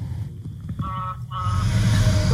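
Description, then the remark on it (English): A semi truck passes by, its deep engine rumble swelling and growing louder toward the end, with two brief horn-like honks sounding midway through. “Semi drove by.”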